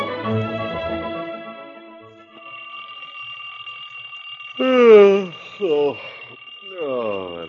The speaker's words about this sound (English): An alarm clock. Get up! Get up! I can't keep on ringing all day.